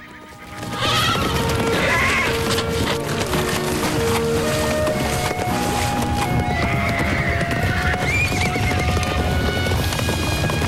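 A herd of mustangs, driven by two riders back across a river, gallops past in a loud, continuous rumble of hooves, with several horses whinnying over the pounding. The noise swells in within the first second and stays dense throughout.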